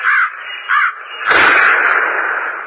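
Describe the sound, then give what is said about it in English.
Two harsh crow caws sound in quick succession, followed by a louder, longer burst of rough cawing and noisy flapping that fills the rest of the moment. “Dead birds.”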